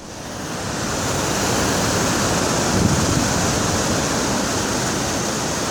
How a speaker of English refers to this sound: That sound of the James River at Richmond sets the stage for hearing the story of Abraham Lincoln's trip to Richmond in the final weeks of the Civil War.